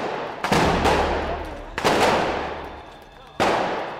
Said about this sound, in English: A volley of red sparks shot from the cardboard tube and exploded all around the police trucks up the road.